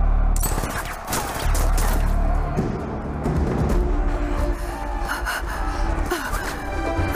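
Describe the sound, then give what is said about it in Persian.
Loud, sustained bursts of rapid gunfire, many overlapping shots cracking without pause for several seconds, thick with echoing blasts and clatter. “شلیک نکنید! شلیک نکنید! گفتم شلیک نکنید!”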